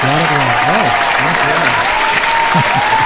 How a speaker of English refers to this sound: That applause was for me being able to say your name correctly. That's what it was.